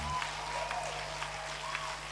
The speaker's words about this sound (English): You can put your hands together properly.